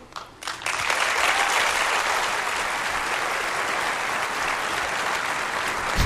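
An audience at an iPhone presentation breaks into sustained, steady applause after iPhone's J.D. Power customer satisfaction ranking is announced, the dense clapping holding at an even, loud level for several seconds after a brief quieter start.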